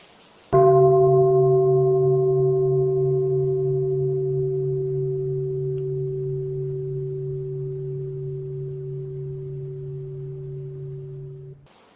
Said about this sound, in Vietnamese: Giờ các bạn thử thư giãn, nghe một tiếng chuông là thư giãn thử, làm cho thiệt thà.